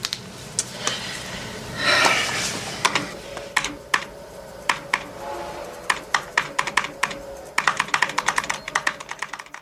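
Rapid clicking of keys on a computer keyboard, irregular bursts of sharp taps that speed up into a quick flurry near the end, clear with no talking.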